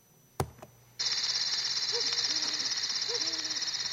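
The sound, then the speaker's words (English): After a sharp knock, a dense, steady chorus of crickets switches on and trills continuously, with faint animal calls murmuring underneath, with cows, donkeys, a sheepdog, goats, chickens, roosters, ducks, pigs and horses all at once. No one speaks. “With the crickets, the cows, the donkeys, the sheepdog, the goats, the chickens, the roosters, the ducks, the pigs, the horses, the horse flies, the camels, the party, and the baby crying.”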